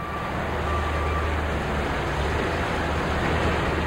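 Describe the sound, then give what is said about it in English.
A steady, loud rumble of heavy diesel garbage trucks idling, lined up in the warehouse of a municipal trash incinerator in Indianapolis to dump their loads, with a constant low engine drone and a faint high tone running through it, no voices. “The first thing that hits you when you walk into the Ogden Martin Systems incinerator warehouse, where trucks are lined up to dump their loads of garbage, is the smell.”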